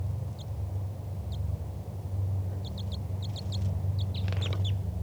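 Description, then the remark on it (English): A wild bird gives short, high-pitched flight calls: isolated chirps at first, then quick bursts of three or more, over a steady low rumbling hum. “That was a wild bird giving flight calls.”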